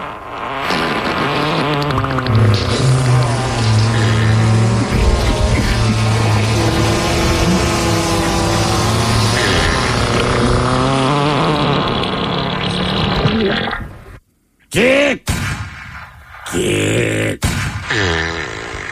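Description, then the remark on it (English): A loud, dense montage of fart sounds, buzzy and overlapping, runs almost without pause before a brief silence and a few final sputtering bursts. “How about a fart montage”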